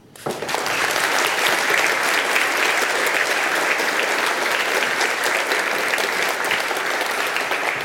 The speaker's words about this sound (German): Und wenn ihr das selber seid, ihr dürft auch für euch selber klatschen. Einen noch größeren Applaus für die Leute, die sich wirklich monatelang den Allerwertesten aufgerissen haben, um das hier ganz auf die Bühne zu stellen.